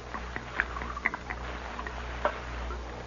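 Liquid pours from a jug into a cup, heard as faint, irregular gurgles and small splashes over a low steady hum, with no one speaking.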